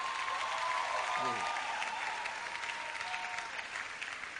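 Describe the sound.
Steady, dense applause from a large church audience at the commissioning of two churches, including the new Dominion City in Ikeja, fills the whole clip, a continuous wash of clapping with a brief voice-like tone and a faint cheer rising through it.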